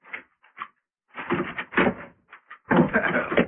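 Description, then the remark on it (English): A few sharp metallic clicks and rattles as a lock is worked, followed by a heavier clatter of a door being pulled open, fairly loud. “Pop, open up! It's Will, my stepson, bringing me coffee like every night.”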